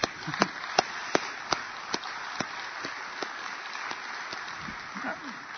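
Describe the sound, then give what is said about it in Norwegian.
An audience applauds steadily, a dense wash of clapping with a few sharp, evenly spaced claps standing out early on, then gradually settling into a softer, even patter. “Du skal få en god applaus på veien her.”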